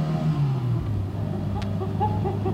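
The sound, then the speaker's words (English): A sports car engine, played from a record, revs from inside the cabin, a steady low drone with shifting harmonic tones as the pitch drops and then holds, loud with no voices. “This record says it's a sports car interior.”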